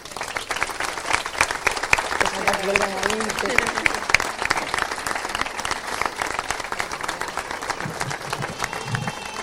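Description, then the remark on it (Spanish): Sustained applause from a sizable audience, dense steady clapping filling the whole stretch, with a few faint voices and cheers mixed in underneath. “Yo creo que esto, por lo menos, ya merece un aplauso.”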